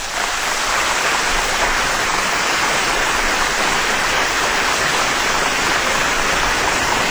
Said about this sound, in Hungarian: Ez a taps addig szól, amíg nem állítjuk le, de nem tudjuk leállítani, mert a kompjúterbe nem tudok behatolni, mert átléptem valahova máshova.